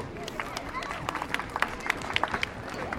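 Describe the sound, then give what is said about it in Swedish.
A crowd at the opening of a festival in Tyresö, Sweden, applauds the festival's compère on stage in a meadow, many hands clapping in a dense, sustained patter with sharper individual claps standing out, along with a soft murmur of voices underneath. “Men ge er och festivalens konferensier en varm applåd,”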